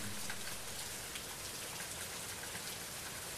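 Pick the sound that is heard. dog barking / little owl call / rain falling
rain falling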